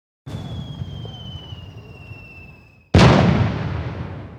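A firework whistles upward with a thin, steady tone, then a loud, booming burst erupts and rumbles away, with a faint crowd murmur underneath.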